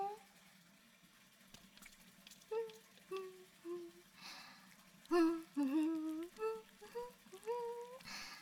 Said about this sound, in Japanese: お湯を張っておいて。